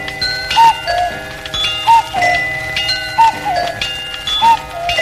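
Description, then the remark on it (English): A ringing bell sounds in a steady repeating pattern, its tones lingering over a bed of soft, rhythmic clock ticking, with no voices present. “And bell.”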